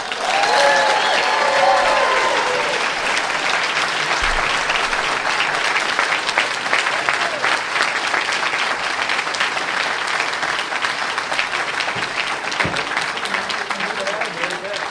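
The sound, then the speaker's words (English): Loud, sustained applause from a large audience at the EntreLeadership Master Series as John Rich is welcomed to the stage, a dense wash of clapping that holds steady for the full stretch, with faint cheers and whoops rising in the first couple of seconds. “Entree Leadership Master Series, please welcome with a huge applause to the stage, John Rich.”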